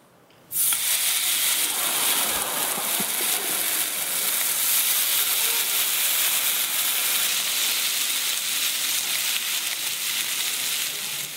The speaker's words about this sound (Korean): 아까 그 세 장면에서 나온 소리는 전부 삼겹살 굽는 소리입니다.